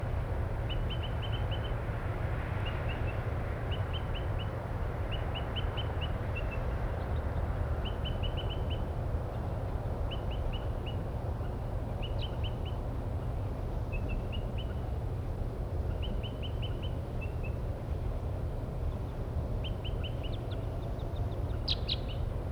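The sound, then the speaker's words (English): Crossbill flight calls from about four crossbills in pine trees by a parking lot, short high 'kip' notes in quick clusters of two to four, repeating about every second or two over a steady low rumble of traffic. “there are about 4 crossbills now near the parking lot area up in the pine trees, and one is still tooping.”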